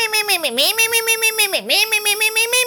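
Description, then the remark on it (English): A voice imitates a squeaky, kitten-like mewing in high-pitched, rapidly repeated "me" syllables, with two brief downward swoops in pitch, fairly loud with nothing else underneath. “me, me, me, me, me, me, me, me, Freddy, that sounds like Squeaky Kitty”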